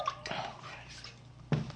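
Water drips and trickles out after a nasal rinse, a few splashy drops spread over a couple of seconds, with a sharper splash near the end.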